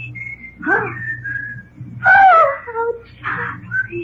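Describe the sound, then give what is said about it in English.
A series of short whistled phrases mimicking a bird call, sliding and warbling in bursts with brief pauses, clear over a low steady hum. “Yeah, that one's my whistling a tune, ain't it? I've never heard such a bird.”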